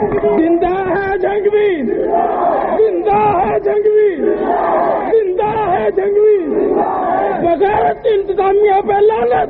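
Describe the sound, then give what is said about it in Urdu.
A large crowd at a protest rally chants slogans in unison during a speech, loud and sustained, with rhythmic rising and falling phrases repeating every couple of seconds over a dense wash of voices. “ابھی نہیں, جب یہ سب نہیں, ایسے بھی نہیں, کسی نعرے کی اجازت نہیں, کسی غلط نعرے کی اجازت نہیں ہے.”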